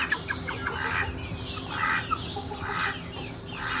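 young hens clucking

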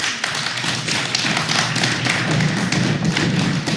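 audience stomping feet

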